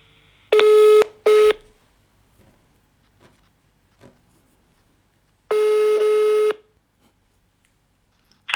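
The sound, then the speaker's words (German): Two short, loud electronic telephone ring bursts in quick succession as a phone call is placed, a pause with faint clicks, then a longer ring tone, all clear with no talking. “Also ich hoffe, dass das mit der Qualität gleich gut klappt und rufen wir doch mal durch.”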